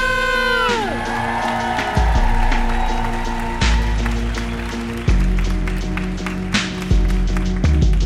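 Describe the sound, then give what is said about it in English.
An audience at a stand-up comedy show claps and cheers steadily for several seconds as comedian Michelle Buller is introduced, with scattered whoops rising above the dense applause while a thumping low beat pulses underneath. “Please give it up for Michelle Buller!”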